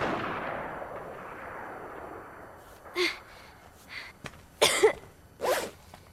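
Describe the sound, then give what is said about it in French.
A loud gunshot fired at close range in a scene from the film Kick-Ass opens, its broad roar fading away over a couple of seconds, followed by a few short, sharp breathy bursts like gasps or coughs. “Bah oui, ça fait pas mal de se prendre un pruneau.”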